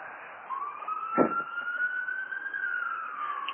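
A police car siren wails in a long, slowly rising tone as the car is stuck in traffic on a four-lane avenue, over steady street traffic noise, with a brief louder rush of sound partway through.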